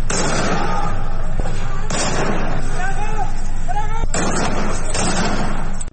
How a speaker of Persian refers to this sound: صدای تیراندازی‌های ممتد شنیده می‌شود که همین امر به نگرانی‌ها درباره سرنوشت معترضان دامن زده است. در ویدیویی که به سایت حقوق بشری هنگا و شامگاه دوشنبه از سنندج منتشر کرد، ماموران امنیتی در حال تیراندازی مستقیم به سمت خانه‌های شهروندان در سنندج هستند.